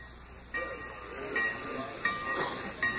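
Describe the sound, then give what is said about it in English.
A train idles at the station in Pineville, steady steam hissing with a low rumble underneath, broken by several louder bursts of escaping steam and faint metallic squeals. “When I got off the train in Pineville last night, two men were waiting for me.”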